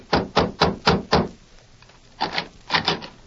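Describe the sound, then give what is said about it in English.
Knuckles rap on the wooden door of a young man's home as a marshal and a sheriff come to call: five steady, solid knocks, a short pause, then two quicker clusters of knocks. No voices. “Convinced that Sheriff Flint's suspicion of Jeff as an outlaw and murderer was sound, the marshal, with Flint and Dutch, knocked on the door of the youth's home.”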